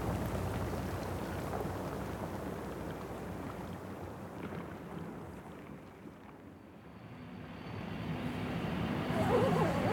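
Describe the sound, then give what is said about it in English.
Melting glacier ice at Ilulissat, Greenland, fizzes with a dense, continuous crackle of tiny snaps and pops, like steady rain, over a low rumbling background. The crackling swells a little louder toward the end. “And those snaps, and those pops, that's the sound of it melting.”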